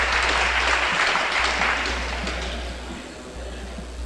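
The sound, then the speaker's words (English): A crowd applauds steadily to congratulate a hockey player receiving a second-place award after championship games. It is a dense wash of clapping that holds for several seconds and slowly fades a little toward the end, with faint voices mixed in. “Being congratulated by the crowd here.”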